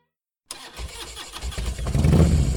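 A motorcycle engine kicks to life after a moment of silence, sputtering at first, then building into a loud, throaty rev that grows steadily heavier and closer.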